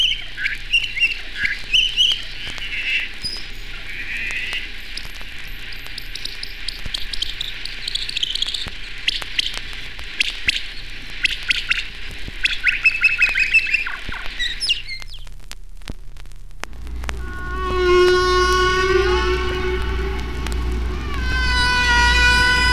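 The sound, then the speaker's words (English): Humpback whale song sped up fourteen times, turned into rapid bird-like chirps, squeaks and trills over a steady low pulsing, then giving way near the end to a longer, harmonic wailing call. “A good way to hear the patterned structure of humpback songs is to speed them up to birdsong speeds. This song is sped up 14 times.”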